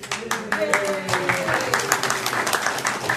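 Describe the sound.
A small group at a Wizards of the Coast product preview seminar claps steadily for about three seconds, the claps brisk, with a voice faintly audible underneath.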